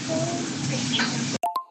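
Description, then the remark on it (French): A steady, airy sucking noise of someone loudly slurping ramen noodles, lasting over a second, then two short sharp clicks after it cuts off. No one speaks. “Quelqu'un qui aspire ses ramen très fort, ici, c'est permis.”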